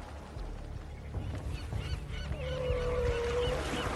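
Seagulls cry out repeatedly, several overlapping squawks and one drawn-out wail, over a steady low rumble of wind and sea, as Bryde's whales begin hunting and the gulls follow closely. No one speaks.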